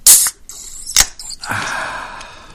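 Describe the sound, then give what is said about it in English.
A can of Guinness draft is cracked open: a sharp hissing pop, a second metallic click, then a steady soft fizzing rush of foam that lingers to the end. No talking. “That was Guinness draft here.”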